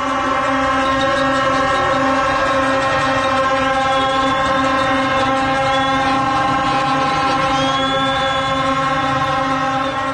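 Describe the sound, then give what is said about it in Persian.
A dense, continuous blare of many horns sounding at once from a crowd of all ages, from young girls to middle-aged women in chadors, waiting for buses outside a stadium while chanting. Overlapping sustained tones at several pitches form a loud, unbroken wall of honking for the whole stretch. “از دختران کم سن با لباس‌های رنگی تا میانسال و چادری، همه مشغول بوق زدن و شعار دادن. سکوت کرد و گفت گوش کن، و من فقط صدای بوق شنیدم.”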